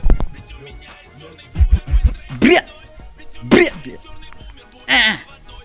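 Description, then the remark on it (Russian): Three separate harsh coughs burst out a second or so apart, loud, with a few dull low thumps just before the first one and no talking; someone coughing on a backing vocal track. “Ты чё мне, блядь, на бэках кашляешь? С рокотом?”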